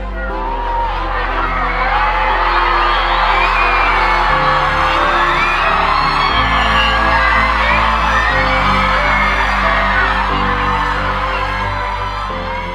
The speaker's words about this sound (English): The awestruck cheers of the crowd